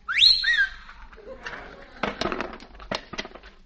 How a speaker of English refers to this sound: I learned a whistle. Have you really learned a whistle? Yes, I learned a whistle. Listen.